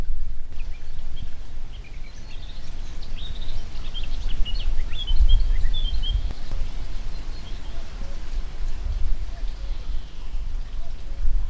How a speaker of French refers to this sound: il y a plusieurs types d'oiseaux différents qui sont en train de chanter dans les haies qui sont autour de nous